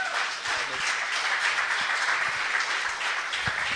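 A crowd applauds steadily for a few seconds, a dense wash of many hands clapping at an even, fairly loud level with no voices rising above it.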